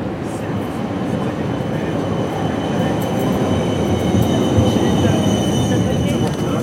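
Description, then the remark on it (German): A tram rumbles past at the Domplatz tram stop, a steady rolling roar that swells midway, with faint high metallic squeals from the wheels on the rails. “Wir sind an der Straßenbahnhaltestelle Domplatz, deswegen hört man hintergrund auch die Straßenbahn.”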